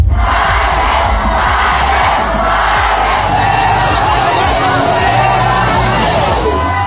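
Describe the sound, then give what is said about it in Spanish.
A large crowd boos and shouts, a loud, unbroken roar of many voices that holds steady for the whole stretch, with individual yells poking through the din. The crowd is criticizing and booing Jorge Álvarez Máynez during his visit to UAM Xochimilco in Mexico. “Jorge Álvarez Máynez se enfrenta a críticas y abucheos en su visita a la UAM Xochimilco.”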